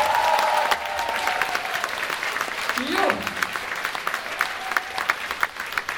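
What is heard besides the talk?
audience applause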